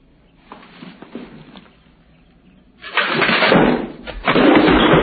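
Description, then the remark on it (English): A few soft knocks and shuffles, then a loud, rough scraping as a chair is dragged across the floor for the last two seconds, with no one speaking. “If you don't straighten out that chair, I'm going to straighten it out for you.”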